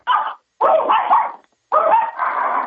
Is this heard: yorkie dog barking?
yes